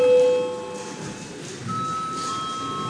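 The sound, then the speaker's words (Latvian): A parliament session bell, rung to call deputies for registration, rings steadily for the full three seconds, a continuous high-pitched electric tone with overtones that persists over a low background murmur. “Godātie kolēģi, lūdzu zvanu, lūdzu deputātu reģistrācijas režīmu.”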